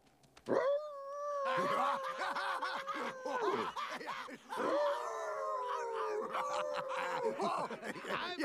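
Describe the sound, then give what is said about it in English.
A dog howls like a wolf in two long, wavering calls separated by a brief pause. The howls are loud, with pitch sliding up and down. “Wolf for go chase your tail!”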